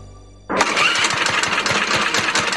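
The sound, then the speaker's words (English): A small lawnmower engine sputters to life after a brief quiet moment, then runs loudly with a rough, rapid chugging rhythm. “The ethanol in our gasoline can gum up the fuel system, making them run rough, if you can even get them started.”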